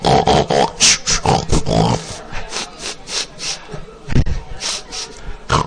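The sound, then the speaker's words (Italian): A wild boar grunts and snorts repeatedly, a steady string of rough, raspy grunts with short pauses between them, loud and continuous for several seconds. “No, non mi hanno dato di maiale, no. Il cinghiale.”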